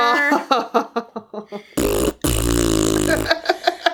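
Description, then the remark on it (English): A voice blows loud, buzzy raspberry fart sounds with the mouth: a string of short sputtering bursts, then two long sustained blasts, and a few quick pops at the end. “Oh man, so, fart noises. This is what we've come to.”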